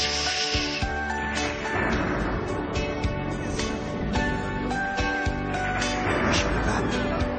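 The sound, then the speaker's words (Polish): Several voices imitate the wind of a great storm at sea with steady, breathy whooshing and hissing, mixed with some higher voiced 'whoo' tones, continuing at a fairly even loudness for several seconds. “Nie boimy się, jest z nami Pan Jezus, gdy na morzu wielka burza udajemy wiatr.”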